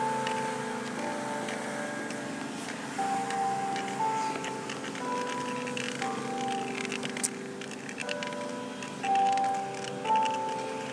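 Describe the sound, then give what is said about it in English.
A tower clock chimes nine o'clock, its bells ringing out in a steady sequence of sustained, ringing tones that overlap and hum as they fade, over faint outdoor background noise. “There's a tower clock.”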